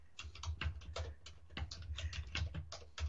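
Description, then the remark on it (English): Rapid, irregular clatter of keys being struck on a computer keyboard, fairly quiet, with bursts of keystrokes and brief pauses between them; no one speaks. “I mean, I'm typing.”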